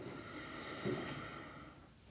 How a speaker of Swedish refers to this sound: Och sätter vi ihop handflatorna. Och tummen mot bröstbenet. Och blundar då. Och så andas vi in.